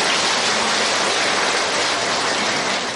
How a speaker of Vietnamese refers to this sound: Đúng rồi, cho một tràng pháo tay.